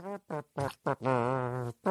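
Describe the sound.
A voice imitates a trumpet with the mouth: four short buzzy blasts, then a long wavering held note and a final blast, brassy and harmonic-rich, with no speech.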